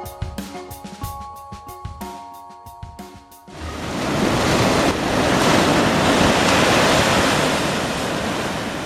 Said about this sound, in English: The sound there of waves breaking at the easternmost national park in the United States, Acadia in Maine, absolutely gorgeous.